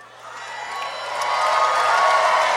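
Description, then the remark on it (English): A crowd applauds and cheers, a dense, steady wash of clapping and voices that swells louder over a couple of seconds and then holds. “Don't applaud him doing the bare minimum, please.”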